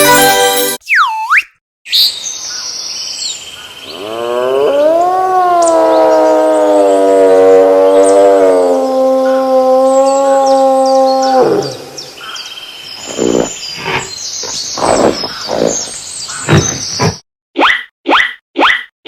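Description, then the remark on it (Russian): A loud, drawn-out moose call, a wavering moan held for about seven seconds, set among brief whistling sweeps and a scatter of sharp chirps and plops. “Правильно, это лось.”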